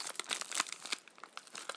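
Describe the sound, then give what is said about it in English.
Crisp crinkling of a long piece of paper being unfolded, a steady run of dry rustles and crackles with a few sharper snaps, no voices. “Right, what it seems to be is a long piece of paper.”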